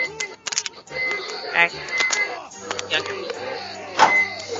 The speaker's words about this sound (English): What are you talking about? Stop smacking my balloon.